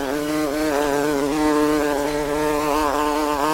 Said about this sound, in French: Alors en fait, je suis au lycée en France, en classe, en plein hiver, et j'entends ce son. Donc d'abord, j'essaye de chasser ce bourdon, cette abeille.